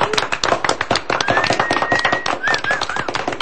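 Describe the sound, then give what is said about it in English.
A crowd claps for the weather of the last two or three days in a dense, steady burst of applause, sharp overlapping hand claps throughout, with a high whistle rising and wavering above the clapping partway through. “Boy, there weren't many times in this last year that we could say this, but how about a round of applause for the last two, 3 days of weather?”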